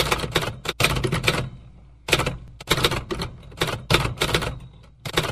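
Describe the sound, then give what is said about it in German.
Rapid mechanical clacking of an Olivetti Telebanda Audit 1731 electromechanical accounting machine as data is manually typed in, loud, coming in bursts of quick keystrokes with short pauses between them and no voices. “Also, erstens, Daten manuell erfassen mit der Telebanda Audit 1731 von Olivetti.”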